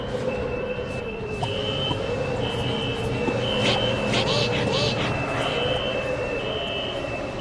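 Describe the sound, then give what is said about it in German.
A steady, piercing high-pitched alarm tone sounds continuously over a heavy, rumbling mechanical background, with a few brief hissing bursts partway through. No one speaks. “Alarm 2.”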